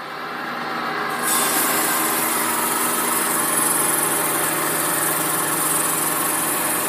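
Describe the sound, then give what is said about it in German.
A loud motorized water-cooled stone saw roars steadily while idling; after about a second its pitch rises into a harsher, hissing grind as it begins cutting a small block out of a piece of rock, continuing unbroken with no voices. “Und jetzt fange ich gleich an zu sägen.”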